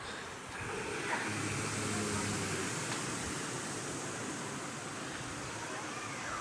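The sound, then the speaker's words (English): A group of people make a soft, breathy buzzing together, imitating bumblebees. It is a steady, noisy hiss with a faint low hum underneath and little clear pitch, lasting the whole time. “So some of the gopas were imitating the sound of the bumblebees. Everyone, please.”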